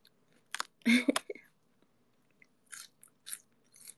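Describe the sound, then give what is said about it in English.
Someone bites into the inner part of a raw head of lettuce, its outer leaves removed, with a loud, crisp crunch, then chews in a few softer, wet crunching bursts spaced about half a second apart. “But this is the first time since being a kid that I've eaten it from the head.”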